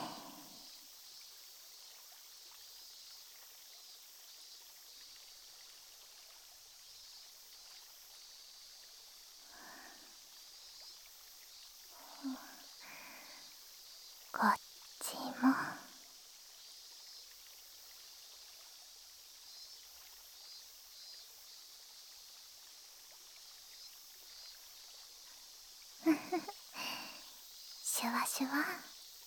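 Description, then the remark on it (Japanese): Carbonated water poured into a glass right by the listener's ear, its bubbles fizzing and crackling as a steady soft hiss throughout, with a few brief whispered bursts of voice over it. “パチパチって音聞いてて心地いいですよね。”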